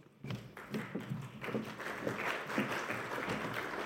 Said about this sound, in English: Well, it's amazing when someone claps when you're going to talk about ATO debt.